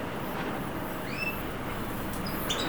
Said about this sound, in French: J'entends les oiseaux.